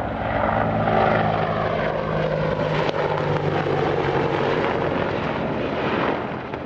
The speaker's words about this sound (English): In the aftermath of this attack in central Baghdad, U.S. military helicopters circled overhead, dropping flares near the spot where Iraqi officials said a suicide car bomber had killed